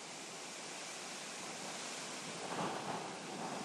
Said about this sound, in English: Of course, now the thunder's not as dramatic as it was before. You can hear the wind and the flagpole.